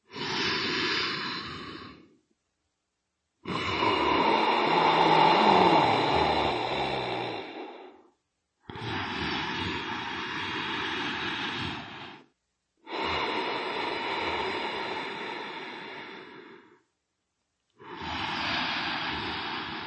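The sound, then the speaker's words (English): Long, deep, raspy Darth Vader-style breaths, each a loud hissing rush lasting several seconds, separated by short silences. Four full breaths come in a slow, steady rhythm, with no talking, taken during a yoga practice after a downward-facing dog. “Next came 4 long Darth Vader breaths.”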